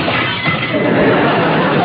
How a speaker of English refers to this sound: Then, a rustling of paper and a shattering of glass.